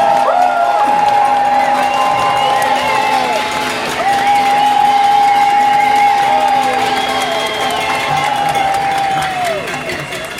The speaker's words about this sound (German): Ich möchte Sie jetzt bitten, mit einem ganz lauten Applaus unsere Rednerin Vandana Shiva zu begrüßen.